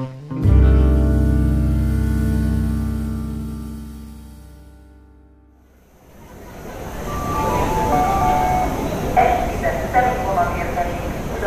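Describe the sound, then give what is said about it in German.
A long, loud horn-like tone fades out over several seconds, then a steady rumble of a moving train bound for Budapest builds up with faint squeals and clatter from the rails. “Ging dann auch gleich weiter mit dem nächsten Zug dann nach Budapest.”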